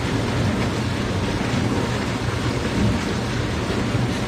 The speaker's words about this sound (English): But then the next one. Dishwasher.